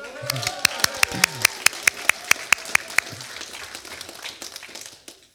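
A short burst of applause from a small group, sharp claps at a quick steady pace for about three seconds, thinning out to a few scattered claps before fading, with murmuring voices underneath.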